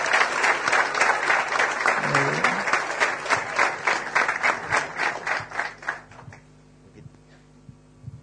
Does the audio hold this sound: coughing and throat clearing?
no